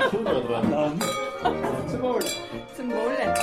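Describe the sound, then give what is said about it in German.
Several bright glass clinks ring out at uneven intervals, as in a toast, mixed in with chatter and a little laughter from a small group. “Prost!”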